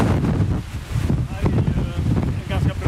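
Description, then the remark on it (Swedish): Strong, gusty wind on the Käringberget height at the Gothenburg harbor entrance in Sweden roars and buffets against the microphone, a loud continuous low rumble that swells and dips, with a faint indistinct voice barely audible beneath it. “Vad härligt det låter där i blåsten.”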